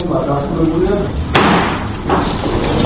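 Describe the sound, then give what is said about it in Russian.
A judge strikes a wooden gavel in court, deciding to accept a case for consideration: a single sharp strike cracks out midway, loud and abrupt, over a steady bed of murmuring voices and room noise. “Ударом деревянного молотка судья решил принять дело к рассмотрению.”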